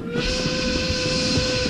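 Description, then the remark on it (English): A steam train whistle blows in one loud, sustained blast, a steady reedy tone over a breathy hiss, holding without a break from start to finish. “I turbocharged the engine.”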